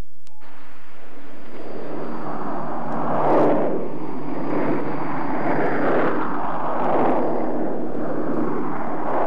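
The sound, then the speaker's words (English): In a Radio Moscow dramatization, a lone American reconnaissance propeller plane drones steadily overhead Hiroshima, Japan, on the morning of August 6, 1945, its broad engine roar swelling and shifting in pitch over several seconds, with a thin high whine running underneath and no voices. “A lone American reconnaissance plane flew over and vanished.”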